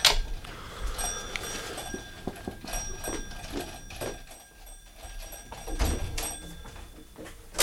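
A series of sharp knocks on a door by two visitors, irregular and insistent, followed by clattering handling sounds as the door is opened, with no talking. Freezing winter weather outside.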